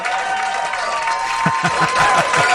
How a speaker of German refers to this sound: Hier kommt ein Applaus.